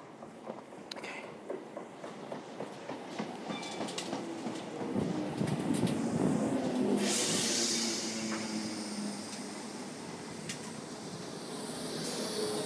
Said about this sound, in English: And I think the train's coming now. I can hear the rails whistling.